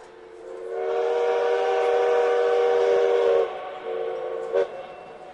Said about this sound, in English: Dad, the train's about to leave.